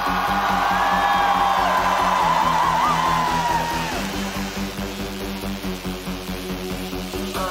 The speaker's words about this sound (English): everybody screams!